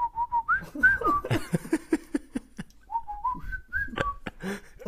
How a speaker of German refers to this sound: Du kannst nicht mal pfeifen, ey. Ich sag, ich kann es nicht besser, aber... Doch, ich kann ein bisschen pfeifen, kann ich.